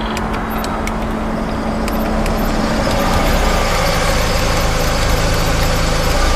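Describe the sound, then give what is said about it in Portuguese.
A car engine rumbles steadily at low idle, growing slightly louder as the car arrives at a garage, with a faint mechanical hum and no voices. “O barulho um pouco mais afastado de garagem é acionado. Um carro chega.”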